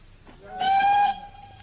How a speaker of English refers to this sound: We get halfway to London, and you suddenly insist on dragging me off the train at this suburban halt and not a refreshment room in sight.